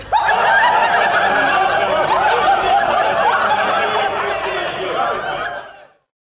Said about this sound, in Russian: Шумит толпа веселых берендеев. Везут они сани с соломенным чучелом, провожают масленицу.